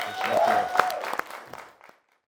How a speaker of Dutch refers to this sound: Applaus.